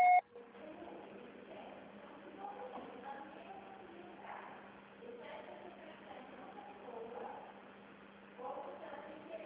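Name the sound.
voicemail beep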